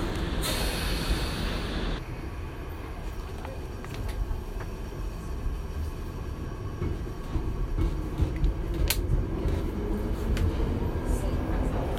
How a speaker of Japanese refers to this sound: 今ピカデリーライン動き出しました。電車の方が走っています。